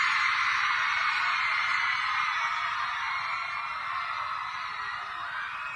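A crowd of women screams and cheers in a sustained, high-pitched roar that stays loud and dense for several seconds, easing slightly toward the end.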